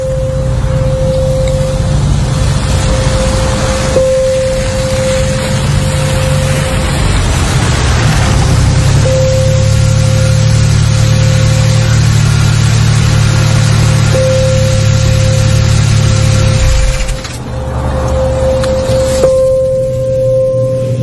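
A car engine hums steadily, shifting in tone as the vehicle slows and pulls over into a rest area, then settles into a low idle; a thin steady tone runs faintly beneath it.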